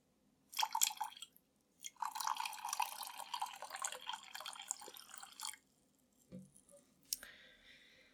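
Water is poured onto a floor in two hissing, splashing bursts, a brief one and then a longer steady pour, followed by a few faint drips and light knocks.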